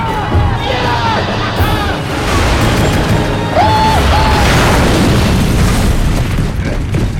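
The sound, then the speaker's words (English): A dense, roaring barrage of booms and crashes rolls on without a break, with laser-like tonal whines sweeping through the din as a Necromunga ship opens fire on a Helion fighter and sci-fi gunfire and explosions pile up. “A Necromunga opens fire on a Helion fighter.”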